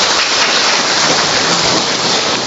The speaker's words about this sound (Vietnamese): Rồi chúng ta chào mừng người chị em này một tràng pháo tay, thưa anh chị em.